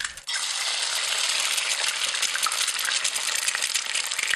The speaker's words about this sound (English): The delightful sound of an egg frying in a hot pan.